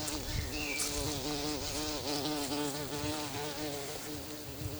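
A bumblebee buzzes steadily in flight, its low droning hum wavering in pitch as it moves, continuous for several seconds with no voices.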